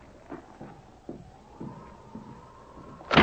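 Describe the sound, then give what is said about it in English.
A cabin door is thrown open by a sergeant: a few dull knocks and a long, thin creak build to a sudden loud bang at the very end. No one speaks. “The sergeant threw open the door of the cabin.”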